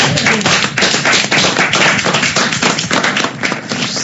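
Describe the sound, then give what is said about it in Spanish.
A crowd applauds guests on a public radio programme, a steady, dense, loud wash of many overlapping hand claps with no voices, holding at a fairly even level for about four seconds. “Aplauso aquí.”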